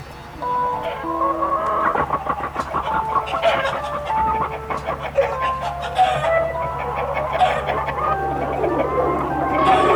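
A flock of chickens clucks busily and continuously, many short overlapping calls, with a steady low hum running underneath throughout.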